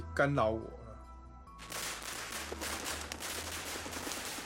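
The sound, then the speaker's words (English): A brief voice gives way to a long string of firecrackers exploding, a dense, rapid crackle of pops that keeps going without pause until the end. “In my hometown, firecrackers and fireworks are used to deliver various messages in daily life.”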